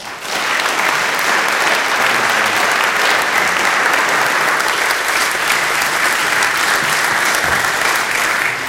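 An audience in a chapel breaks into sustained, loud applause welcoming speaker Dr. Dave Gibson, a dense wash of clapping that holds steady for several seconds without anyone speaking.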